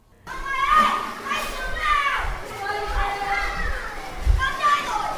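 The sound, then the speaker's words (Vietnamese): Children's voices chatter and squeal continuously at the Kidland high-quality indoor children's play area, a reverberant indoor space, with overlapping high-pitched calls and a busy, bustling background of play and occasional thumps. “Thưa quý vị và các bạn, hiện tôi đang có mặt tại khu vui chơi trẻ em liên hoàn trong nhà chất lượng cao Kidland.”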